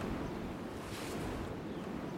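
Strong wind buffets a recorder's microphone, shielded by a hat held around it as a windscreen on a very windy day. A continuous, loud, rumbling roar with heavy low-frequency thumping and no voices present.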